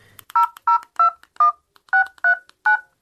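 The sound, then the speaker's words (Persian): Seven touch-tone beeps sound as a phone number is dialed, each a short dual-pitched tone separated by brief pauses in an uneven rhythm, with no talking. “خواه باش که می نمبر دایل کنم.”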